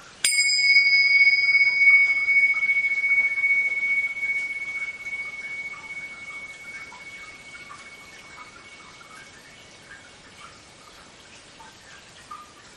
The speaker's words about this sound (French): Par exemple, si je fais sonner ce gong, le moment où vous l'entendez, c'est maintenant.